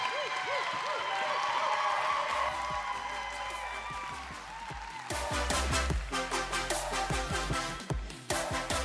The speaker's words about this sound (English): So why don't we do this? Why don't you go ahead and give an unbelievable round of applause for our first speaker this morning